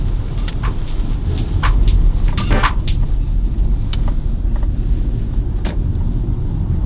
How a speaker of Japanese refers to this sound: 今日は走りながらですよ。うまいこと撮れてるか不安です。多分ロードノイズとかなんかだいぶうるさいんじゃないでしょうかね。